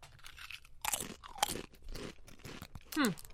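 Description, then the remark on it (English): Crisp, crackly crunching of Pringles potato chips being bitten and chewed, with several sharp bursts in quick succession and a brief vocal murmur near the end. “We're trying the Pringles first.”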